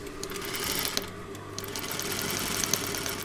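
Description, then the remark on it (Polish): A sewing machine stitching an apron runs steadily, its motor humming with a fast, even mechanical rattle of stitching that continues without pause, with no one speaking over it. “A nie boisz się, że taka maszyna wyrządzi ci krzywdę?”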